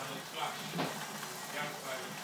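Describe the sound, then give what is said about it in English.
Steady, soft hiss of rain, getting harder, heard through a kitchen window, a continuous crackling wash with gentle swells in intensity and faint murmuring voices underneath. “Can you hear the rain? It's from my kitchen window. It's getting harder.”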